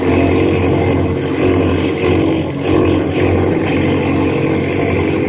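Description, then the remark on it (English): A small airplane engine drones loudly and steadily in a spin, its rough buzzing roar holding a constant pitch with slight surges throughout. “Bring her out of that spin.”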